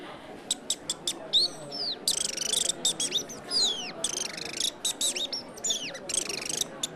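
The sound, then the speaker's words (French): A person whistles an imitation of a common chaffinch's song: rapid high chirps and descending sweeping phrases repeated in bursts, loud, over faint background murmur. “Moi, c'est le pinson des arbres. Alors, je vais vous le faire.”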